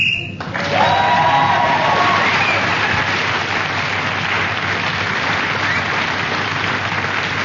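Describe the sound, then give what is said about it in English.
A short, shrill whistle blast ending a round of a game show sounds at the very start and is immediately swallowed by a steady wave of loud applause and some cheering that carries on to the end. “So, Paul Mutton was then speaking as the whistle went, gained the extra point for doing so.”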